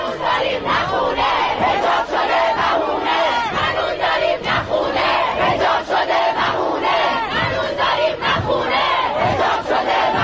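A large crowd of students at the University of Science and Culture chants protest slogans in unison, voices loud and dense with a steady rhythmic cadence running throughout, no quiet gaps between phrases.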